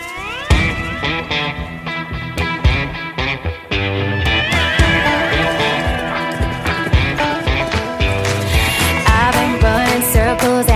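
A loud, full-band instrumental intro to a new country single, with steady drum hits driving a bright, layered mix of sustained guitar-like tones, with no vocals.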